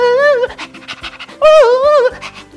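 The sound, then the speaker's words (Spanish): A dog pants in quick, rhythmic breaths, fairly loud, interrupted twice by a long wavering whine that rises and falls like a siren. “Apareció un carro de bomberos con patas y con la lengua de fuera.”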